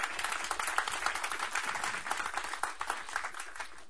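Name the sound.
audience clapping hands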